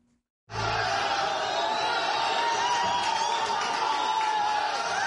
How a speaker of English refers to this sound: The decision Monday by a Cairo misdemeanor court to acquit 26 men accused of debauchery was met with applause inside the courtroom as onlookers cheered and the defendants chanted.